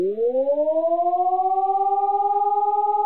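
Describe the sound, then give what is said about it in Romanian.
An electronic civil defense siren, a type that can also transmit voice or prerecorded messages, rises quickly in pitch, then settles into a loud, steady tone with layered harmonics and a fast pulsing warble, sounding alone with no voices. “Prin intermediul sirenelor electronice, avem posibilitatea să transmitem mesaje vocale sau preînregistrate.”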